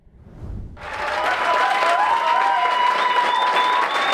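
A crowd in packed Tucson City Council chambers bursts into loud, sustained applause and cheering after the council votes unanimously to reject Project Blue. Dense clapping and a few shrill whistles rise above the din after a brief low rumble at the start.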